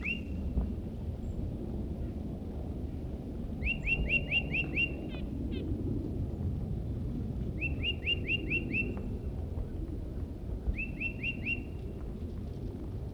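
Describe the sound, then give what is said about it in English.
A tufted titmouse nearby sings clear, repeated whistled phrases, each a quick run of five or six bright notes, given three times with pauses between, over a steady low rumble of background noise. “That was the vocalizations of a tufted titmouse who's nearby.”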